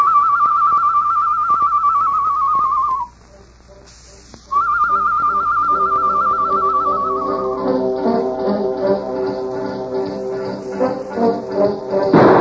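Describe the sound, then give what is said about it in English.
A person whistles an imitation of a bird call: two long, high, warbling trilled notes separated by a short pause, the second fading into lower, rougher tonal sounds. “Me make bird call, huh?”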